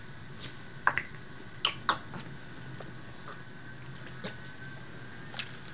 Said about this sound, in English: That was me swallowing my meds.